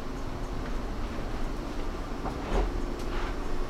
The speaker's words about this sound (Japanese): ご乗車ありがとうございました。終点、住吉です。お忘れ物なさいませんようご注意ください。左側の扉が開きます。